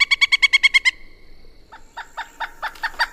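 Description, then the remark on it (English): A pileated woodpecker calls in a fast, loud run of about eight ringing notes, then pauses and gives a second, slightly slower and fainter series. No one speaks. “I think I hear a pileated woodpecker.”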